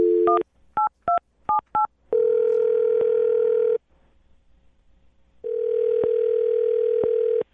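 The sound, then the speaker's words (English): A quick series of touch-tone beeps as a man's phone number is dialed, followed by a steady ringback tone that sounds twice with a short silent gap between, clear. “I'm going to dial his phone number and let you make your Awkward Tuesday phone call.”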